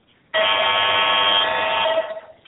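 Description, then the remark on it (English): A loud, harsh electronic buzzer blares continuously for nearly two seconds, starting abruptly and cutting off with a brief fading tail. No one speaks over it. “Oh, it's an alarm.”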